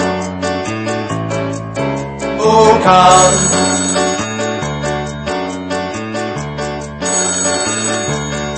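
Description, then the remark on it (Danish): A telephone rings loudly and steadily with a repeating electronic melody, its bright chiming tones cycling over and over for several seconds with no voices present. “Ved du hvad, det er skønt, du ringer lige nu, du.”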